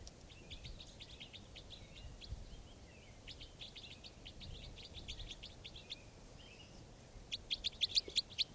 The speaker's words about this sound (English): So I caught two birds here in the net, and the other birds, these are the other birds calling.